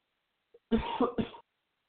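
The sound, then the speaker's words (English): A short burst of harsh coughing: a couple of rough hacks in quick succession after a tiny throat sound, then silence. No talking. “Sorry about having a coughing fit right there.”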